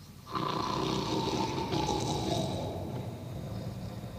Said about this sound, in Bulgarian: Познайте кой хъркал така под борчето. Едно мече, разбира се.